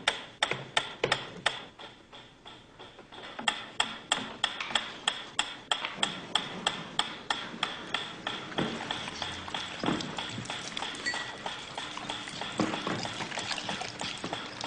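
A ticking metronome, used as a stimulus before dogs are fed meat, clicks sharply and steadily, its crisp ticks repeating in an even rhythm throughout, with no voices.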